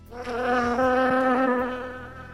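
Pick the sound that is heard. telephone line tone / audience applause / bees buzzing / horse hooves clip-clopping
bees buzzing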